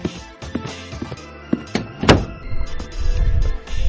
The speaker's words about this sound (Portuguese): Peraí que eu tenho que fechar minha porta. Peraí.